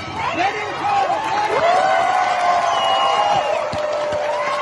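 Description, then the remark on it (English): A protest crowd in Iran cheers and shouts as women take off and burn their headscarves in public, many voices overlapping into a loud, sustained roar with rising and falling yells throughout. “You can hear women doing that in front of a crowd in this clip.”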